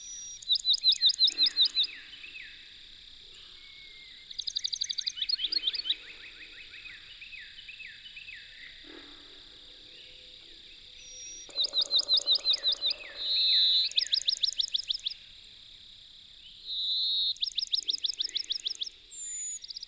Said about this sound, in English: Did I mention that I greatly prefer to call this species the Pinewoods Sparrow?